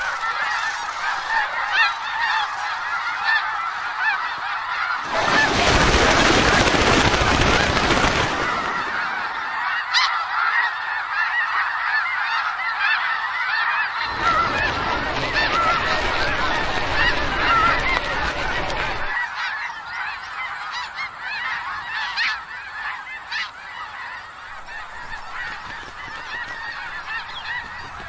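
geese honking

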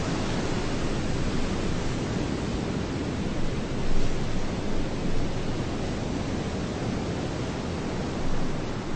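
ocean waves and surf

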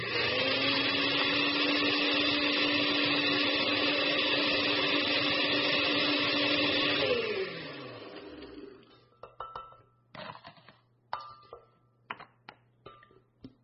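blender crushing ice

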